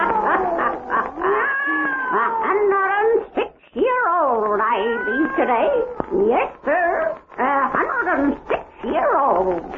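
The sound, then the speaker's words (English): A black cat, Satan, the wise black cat of old Nancy, the witch of Salem, meows and yowls loudly, a nearly continuous string of drawn-out, wavering caterwauls with brief pauses, rising and falling in pitch for about ten seconds. “Weird, blood-chilling tales told by old Nancy, the witch of Salem, and Satan, her wise black cat.”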